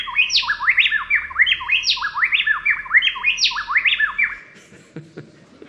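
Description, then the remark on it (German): A pair of wrens, a male and a female, sings a rapid duet, loud, their bright whistled phrases alternating in quick interlocking succession for about four seconds before falling silent. “Frauser-Zaunkönige, die singen auch gerne Duette.”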